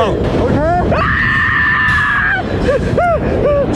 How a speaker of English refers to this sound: I don't like it as much as your surprise scream yesterday.